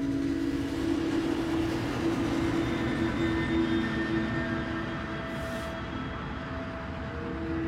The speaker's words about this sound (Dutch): De rabbijn wijst alleen maar in de verte naar een trein die daar rijdt.